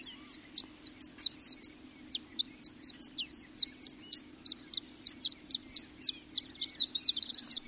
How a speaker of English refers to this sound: A high-pitched, tinkling bird song, suggesting a tiny glass wind chime, rings across an open, grassy expanse in eastern Washington.